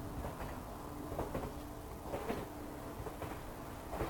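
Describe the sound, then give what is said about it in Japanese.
A steady low rumble of a limited express train running on rails along the Sea of Japan coast toward Kanazawa in Hokuriku, with periodic rattling clacks and faint squeals from the carriage, heard from inside at a constant moderate level, no voices. “翌日私は都会の喧騒を離れ、日本海沿岸を走る特急電車で薫のいる北陸金沢に向かっていた。”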